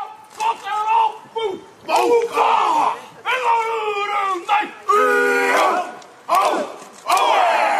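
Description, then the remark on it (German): A motorcycle gang performs the traditional Maori haka in front of the Al-Nur Mosque: a group of male voices shouts rhythmic chanted phrases in unison in loud bursts separated by short pauses, with strained, forceful cries. “Eine Motorradgang führte heute vor der Al-Nur-Moschee den traditionellen Haka-Tanz der Ureinwohner, der Maori, vor.”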